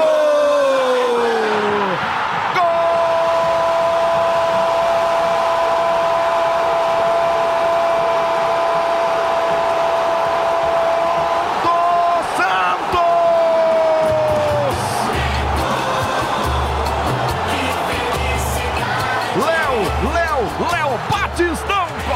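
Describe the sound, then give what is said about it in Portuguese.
A stadium crowd of Santos fans at Vila Belmiro erupts into a dense, steady roar after Batistão's right-footed goal from a Lucas Braga cross, while a man holds one long, loud shout, then keeps talking excitedly over the continuing cheers. “Na rede, explode a torcida do Peixe na Vila Belmiro.”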